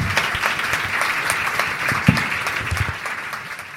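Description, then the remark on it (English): Steady applause from an audience, many hands clapping in a dense, crackling wash that holds at an even loudness for several seconds, with no voices over it. “I will also ask you to join me in a round of applause”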